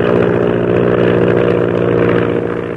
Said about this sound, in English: As Shanghai Lil's plane continues to spin crazily toward the ocean, the ship bearing the mysterious purple triangle roars on its way northward.